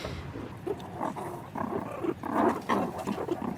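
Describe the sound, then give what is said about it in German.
Meerkats growl, hiss, smack and purr all around, a continuous rough chatter of overlapping snarls that rises and falls in loudness with no one talking. “Es knurrt und schmatzt und faucht und schnurrt um uns herum.”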